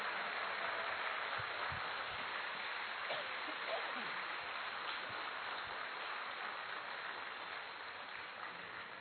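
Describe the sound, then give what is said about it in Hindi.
A crowd applauds steadily and loudly in congratulation of the Madhuban volunteers (sevadharis), a dense wash of many hands clapping that holds for several seconds with little change, a few faint voices mixed in. “जरा विश्व तक तो तालियों की आवाज जाए।”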